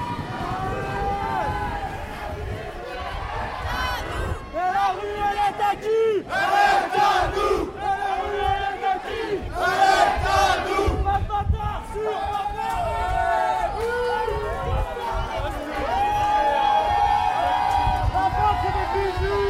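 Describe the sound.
A large crowd at a street demonstration boos and jeers the police loudly, many voices rising into sustained shouts and hoots that swell and fade in waves, with an unbroken mass of noise throughout.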